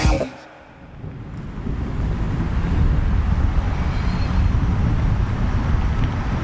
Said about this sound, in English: I wonder if you can hear that at all. There's like rolling thunder starting now. The lightning continues. It seems like it's coming from right over my house.